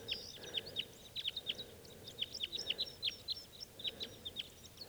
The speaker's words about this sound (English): Big flock of crossbills just flew in here. There must be about six birds. And they're type twos.